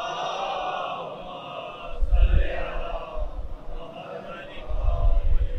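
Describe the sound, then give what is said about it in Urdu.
A large audience recites salawat together in unison at the speaker's request, a dense wash of many voices chanting in a steady rhythm, rising in loudness toward the end. “ایک بریکٹ سنیے, ایک سلوات سے سہارا دیجیے ذرا.”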